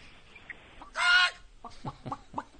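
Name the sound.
chicken clucking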